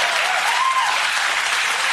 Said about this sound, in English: But here's the part where you all stop applauding everything I say.